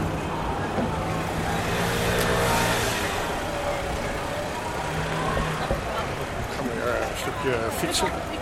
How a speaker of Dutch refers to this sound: Politieauto's voorbij.